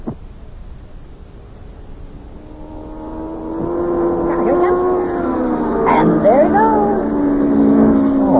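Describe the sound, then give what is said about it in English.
A race car driven by Yuki comes around the bend of the track toward the onlookers, its engine whining and building steadily, rising in pitch and getting louder as it closes in at speed, while a voice briefly exclaims over the roar. “that Yuki is really driving that car”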